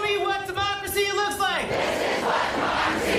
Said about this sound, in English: Thousands of attendees began chanting at the Harris campaign in Eau Claire, Wisconsin on Wednesday as they waited for Kamala to arrive.